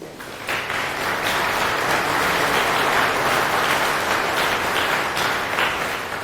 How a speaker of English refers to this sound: A round of applause